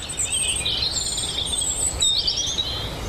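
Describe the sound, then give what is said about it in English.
Several birds sing and chirp together in a steady outdoor chorus in farm hedgerows laden with fruit, bright overlapping trills and tweets over a soft background hush, with no talking. “the hedges of Pat's farm are groaning under the weight of so much fruit that there is still a riot of bird life”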